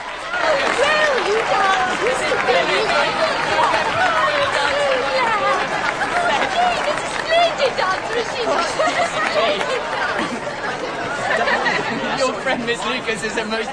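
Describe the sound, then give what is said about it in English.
A crowd claps steadily for over ten seconds at the end of a dance while many voices chatter and call out over it, making a loud, dense, continuous wash of applause and babble. “At the end, everyone claps.”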